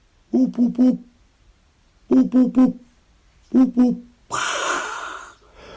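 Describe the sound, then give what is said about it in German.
A person standing in an orchard meadow imitates a hoopoe's call, "up, up": three evenly spaced sets of three low, hollow hooting notes, clear, followed by a long breathy exhale. “Und lauf hoch in die Streuobstwiese und stell mich dort oben hin und dann so, up, up.”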